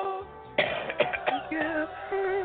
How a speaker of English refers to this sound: That falsetto make you cough, though. If you don't do it right. Everybody can't do it, man.